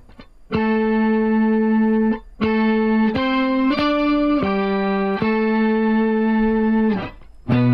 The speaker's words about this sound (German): Tremolo? Leichter Tremolo? Mach mal ein bisschen, damit ihr für den Nachhall was hören könnt. Das ist auf jeden Fall ohne Ende verschiedene Pitch-Shifter, ne? Quinte, Septime, Oktave. Geil. Das ist so ein 12-String.